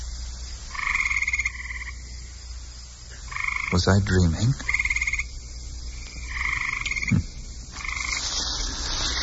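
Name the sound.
frogs croaking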